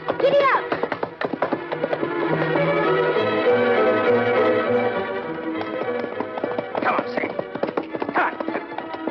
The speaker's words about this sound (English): What is it? Listen there. What? There's a horse. What? Horse headed this way.